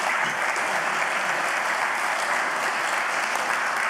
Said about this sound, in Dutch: Geef maar applaus inderdaad.